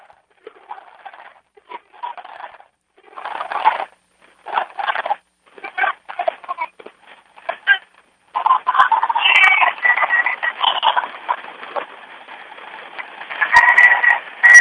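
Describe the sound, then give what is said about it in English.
Tinny, band-limited crowd noise at a rally, the crowd booing and reacting after a protester has come in: scattered bursts of shouting and murmur at first, then a sustained, swelling roar of many voices, loudest toward the end. “I let everybody hear the crowd the best I could”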